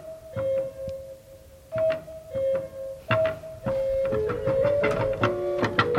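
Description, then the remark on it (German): Bird-stop chirping on the pipe organ installed in 1624 in the Stephanskirche: steady high whistling tones and warbling trills layered over soft mechanical clicks and thumps of the keys, which must be pressed forcefully, growing busier and denser toward the end. “Jetzt werden Sie hier Vögel singen hören.”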